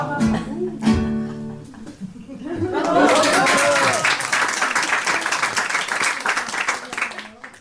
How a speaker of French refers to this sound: C'est la première fois qu'on m'applaudit. Ça me fait pleurer.